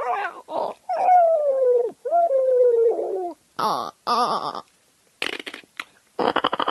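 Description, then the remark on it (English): A human voice imitates the dolphins in the movie Cocoon: a few high, gliding whistles that slide downward, followed by rapid, raspy clicking chatter in short bursts, close and fairly loud with no talking. “Dolphins in the movie Cocoon.”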